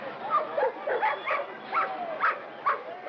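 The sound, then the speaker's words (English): Police dogs bark at young civil rights marchers in Birmingham, on the order of police commissioner Bull Connor, in rapid, repeated bursts, roughly eight sharp barks in three seconds, mixed with yips, over a muffled, crowded background on a thin, old-sounding recording. “And dogs and fire hoses turned on young marchers in Birmingham at the order of hardcore segregationist police commissioner Bull Connor.”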